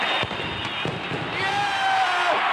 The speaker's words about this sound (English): The explosion scattered records high into the air and left a crater in center field.